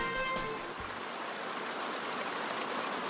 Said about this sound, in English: Here in California, when it rains, it pours. And pours, and keeps on pouring.